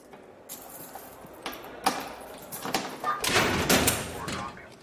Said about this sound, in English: After looking him up and down, Bosco takes a few steps back and the guard unlocks the door.